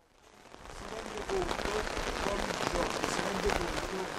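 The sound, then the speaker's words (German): Heavy raindrops drum steadily on a taut tent roof at an anti-mafia awareness meeting outside Latina, Italy, beside an illegal landfill: a dense, loud patter of countless impacts that swells after the first second and holds, with faint murmuring voices beneath. “Der Regen fällt in dicken Tropfen auf das Zeltdach.”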